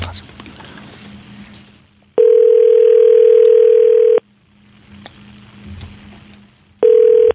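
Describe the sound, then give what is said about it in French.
A telephone line tone as a phone call is placed: a loud, steady mid-pitched hum lasting about two seconds, a pause with faint background voices, then the tone starting again. “OK, on appelle.”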